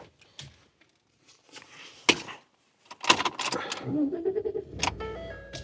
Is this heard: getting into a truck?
yes